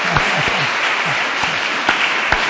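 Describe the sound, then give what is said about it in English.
A crowd applauds a sister who is translating the talk, a dense wash of many hands clapping at a constant loudness, with a few sharper individual claps standing out from the sustained patter. “Please sag applaud danke. For her.”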